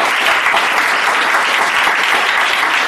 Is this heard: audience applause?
yes